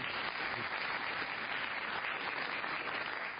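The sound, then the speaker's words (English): A crowd applauds steadily, a dense, even wash of many hands clapping at a constant loud level from start to finish, with no voices heard. “belated applause.”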